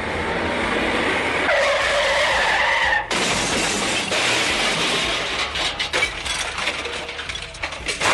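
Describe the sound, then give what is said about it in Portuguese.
A car crash sound effect: tires screech in a long skid with a rising whine, then a loud impact at about three seconds gives way to crunching, shattering debris. No one speaks. “Vejo como características do Dudecast são a batida de carro.”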